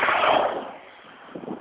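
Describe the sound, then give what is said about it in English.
A vehicle roars past with a broad whooshing rush that fades away, then the rising hum of another vehicle approaching at the end: traffic on road 202, heard while walking along it. No talking. “The traffic noise. Got one more coming.”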